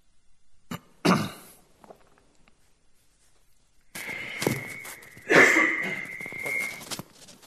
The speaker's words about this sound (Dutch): Pardon, ik heb even een hoest aan.